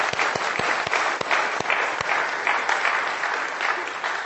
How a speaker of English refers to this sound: Will we give you another wee clap? I think we should.